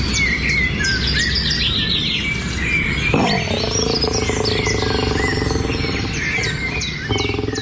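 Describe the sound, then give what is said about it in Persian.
Birds sing and chirp steadily throughout, several high, bright calls overlapping over a dense, low rumbling background. A deeper, sustained animal-like tone joins midway. No one speaks. “افغانستان زیستگاه ایوانات و پرندگان نادری است که در هیچ منطقه جهان نمیتوان آن را سراغ کرد، اما در برخی موارد یا از بین رفته و یا با خطر جدی انقراض مواجه است.”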